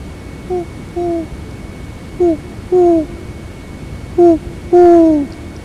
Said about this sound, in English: Hear them? Hear their hoo-hoo. The owls greet her too.